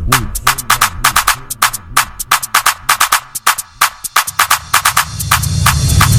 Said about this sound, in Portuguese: Testando agudos.